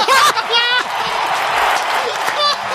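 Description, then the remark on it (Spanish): A large crowd gives a big ovation, applauding steadily in a dense wash of clapping, with voices cutting through over the top at moments, as Pablo Casado arrives. “Vamos a escuchar el ambiente. Ahí está esa gran ovación para...”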